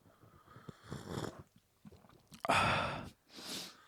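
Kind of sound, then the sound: food or drink, slurping hot tea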